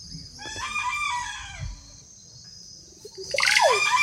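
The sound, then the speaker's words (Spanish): A panfil, a forest bird of the turkey family, gives a single gruff, drawn-out grunting call lasting about a second, fairly clear, then another bird's brighter, sweeping calls rise near the end over a steady background hum. “En el fondo escuchamos como un pujido, que es el panfil, es familiar, es la misma familia de los pavos.”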